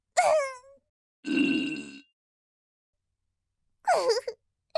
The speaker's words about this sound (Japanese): こもった音のいいおならが出たの。これは強烈そうなのじゃ。